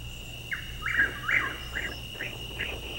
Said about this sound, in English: Yeah, no one's hearing this bird we're playing in the hot summer months of June and July. Or even May. So that bird is a Chuck Wills Widow.